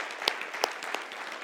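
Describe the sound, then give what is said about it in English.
A church audience applauds its deacons, a steady wash of many hands clapping with a few sharper claps standing out at a moderate level, with no voices over it. “Would you affirm that by giving them an applause and thanking them for their service?”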